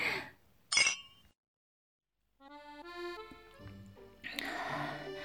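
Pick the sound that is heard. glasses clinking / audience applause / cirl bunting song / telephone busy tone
glasses clinking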